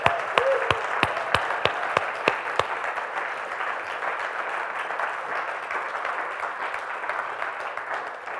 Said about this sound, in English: Why don't we give Lisa a massive clap?